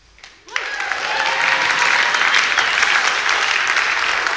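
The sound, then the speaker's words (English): An audience bursts into applause after a brief quiet moment, the clapping swelling quickly into a steady, dense wash of many hands that carries on strongly to the end. “It's been an interesting meeting on service so far this morning, because we've applauded the guys from Crossfire helping us out.”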